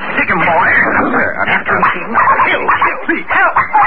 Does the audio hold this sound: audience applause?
no